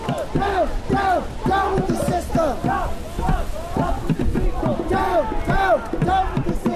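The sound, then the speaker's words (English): A loud crowd chants in unison during a protest march through the streets in New Mexico, organized by the Party for Socialism and Liberation, many voices shouting short, rhythmic phrases over and over with a steady, driving beat. “Marchers mobilized through the streets, and diners waved their support as they passed.”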